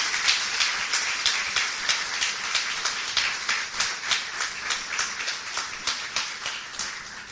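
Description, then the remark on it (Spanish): An audience breaks into sustained applause for the Lord, a dense, steady wash of many hands clapping together for several seconds with a slightly pulsing rhythm and no voices over it. “Vamos a darle el mayor aplauso al Señor.”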